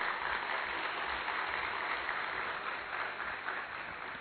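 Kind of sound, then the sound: crowd, loud applause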